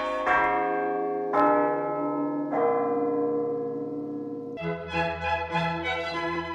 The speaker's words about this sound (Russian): Зазвонили колокола.